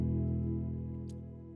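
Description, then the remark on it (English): A long, deep burp for a Burp Theatre segment rumbles steadily for over a second, low and resonant, fading slowly toward the end with no talking around it. “Welcome back to Burp Theatre.”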